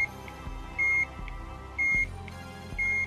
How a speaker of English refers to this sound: Plugging it into a powered-on Game Boy caused the Work Boy to emit a fairly loud beep out of the speaker on its underside.